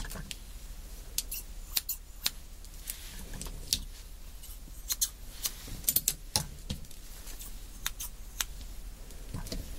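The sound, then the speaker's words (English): Scissors snip repeatedly in quick, irregular cuts, each a sharp metallic click, with no talking in the quiet background. “Find my scissors here. It's right here.”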